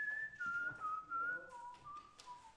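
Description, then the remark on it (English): Someone whistles a bouncy disco tune that had been playing earlier at a disco, the clear tone stepping down and back up through short sustained notes, against a faint background hum with no talking. “If the Booville is wondering why we're singing, why somebody's whistling that, it's because it was playing earlier in the disco at the end.”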